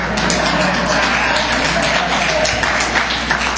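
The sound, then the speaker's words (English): An audience of women claps steadily, a dense, loud patter of many hands that holds at an even level throughout, with faint voices mixed in underneath. “Only the women were clapping.”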